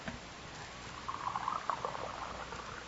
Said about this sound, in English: You could steady these glass beakers for me while I pour the fluid off.